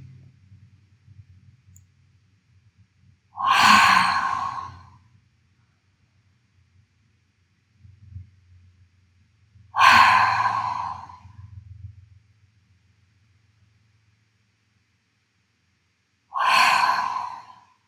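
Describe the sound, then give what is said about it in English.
Three slow, deep breaths exhaled through the mouth, each a breathy whoosh about a second and a half long, spaced several seconds apart over a faint low hum. “Then exhale deeply through your mouth.”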